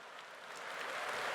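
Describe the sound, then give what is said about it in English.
Steady audience applause, many hands clapping together in a dense, continuous wash that swells slightly louder over its short span, with no voices audible. “The audience is clapping already.”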